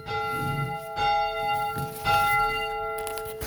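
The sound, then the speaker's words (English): A church bell rings to begin a Sunday Sabbath service, in steady, evenly spaced strokes about once a second, each strike leaving long, overlapping metallic overtones that hang in the air. No one speaks. “That's your church, people. That's our bell.”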